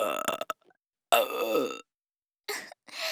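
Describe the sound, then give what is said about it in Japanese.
Several loud burps in quick succession, with a long, rumbling belch in the middle and shorter croaky ones before and after, separated by brief silences. “もっともっとゲップでしてあげ。”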